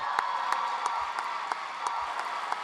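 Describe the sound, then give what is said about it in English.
Steady applause from a crowd fills the space, a dense wash of many hands clapping with a few sharper claps popping out at a regular pace, fairly loud throughout. “And keep that applaud going.”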